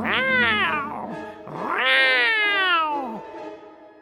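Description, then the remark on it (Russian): A cat eating a ram's meat lets out two long, loud, drawn-out meows with a growling, yowling edge, each rising then sliding down in pitch, with a short pause between them and no talking. “Ест и все урчит.”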